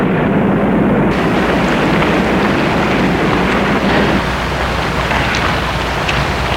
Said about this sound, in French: La camionnette file en faisant un bruit de ferraille. Mais ça gigote de toutes parts.